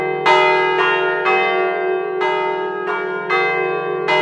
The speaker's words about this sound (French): Il s'occupe de faire sonner l'imposante cloche centrale dont le battant pèse plus de 120 kilos. Il donne le tempo depuis qu'il est enfant.